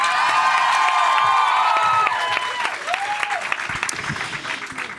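A crowd applauds loudly and steadily, with cheers and whoops rising over the dense clapping, which eases slightly toward the end while staying strong.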